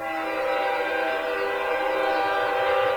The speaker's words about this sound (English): And what's really important, other than the fucking train making a lot of goddamn noise out there, fucking land whales.